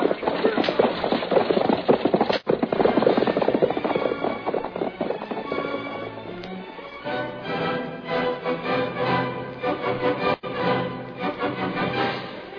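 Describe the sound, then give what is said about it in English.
Stagecoach horses gallop hard toward the next town in a rapid, drumming rhythm of hooves, with a dense, rumbling clatter throughout, joined midway by sustained tonal sounds layered over the steady pounding. “Get them horses going. We got to get to the next town.”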